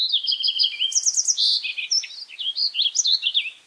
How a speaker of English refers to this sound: And they'll repay you with their beautiful songs, like those of a fox sparrow.